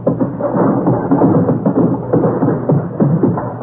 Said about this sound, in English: You're going fox hunting? Well, what's all that noise? Can't get my horse out of the phone booth.